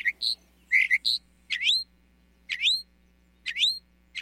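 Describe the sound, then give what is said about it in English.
A mockingbird sings alone: a quick jumble of bright, high notes, then the same rising, whistled phrase repeated three times at roughly one-second intervals over a faint low hum. “With such extensive knowledge of the Great American Songbird book, mockingbirds really are the crooners, or croakers, of the bird world.”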